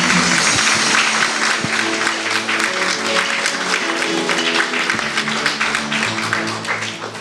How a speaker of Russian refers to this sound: Эти благодарные аплодисменты для вас